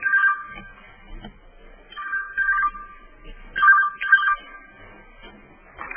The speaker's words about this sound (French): Un téléphone.